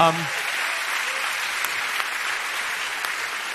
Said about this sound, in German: Unser bester Mann, bitte einen dicken Applaus